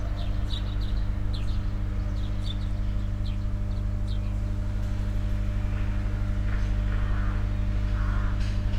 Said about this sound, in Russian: Да, особенность подстанции, которая находится здесь у нас на звездочке. В общем, даже когда находишься дома и закрыты окна, все равно слышно, как она гудит.